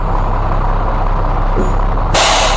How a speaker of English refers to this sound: I was wondering what a Peterbilt 379 sounded like, specifically its air brakes. And so I got on YouTube to look it up. And I found a video featuring that sound.